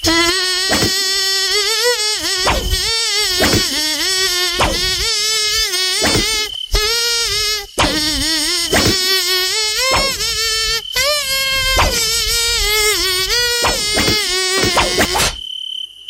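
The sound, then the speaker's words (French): A loud, nasal buzz, clearly a voice imitating a tiger mosquito, whines through a bouncy song melody in quick rising and falling notes, with brief gaps between phrases, for about fifteen seconds before cutting off. “Alors nous, on fait dans le luxe ce matin parce qu'on a carrément un moustique tigre avec nous.”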